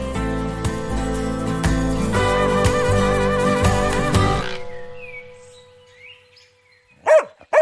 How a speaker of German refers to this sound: Hör mal, wer uns da begrüßt. Ein Hund.